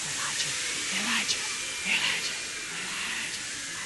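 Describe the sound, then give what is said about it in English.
A crowd of voices makes a sustained, breathy whooshing hiss that imitates a tornado. The rushing wind-like noise swells and fades slightly but stays steady for several seconds, with no speech over it. “First, let's hear the tornado. Make the noise.”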